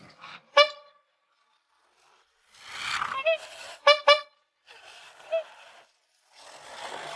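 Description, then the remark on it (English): A red toy car's horn honks several times after it finds a screw on the road: one bright toot, then a quick double honk and a softer single beep, with some rushing background noise in between. “The red car has found the screw. It's calling its friends over.”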